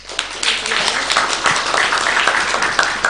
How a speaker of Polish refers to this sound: Duże brawa, pięknie.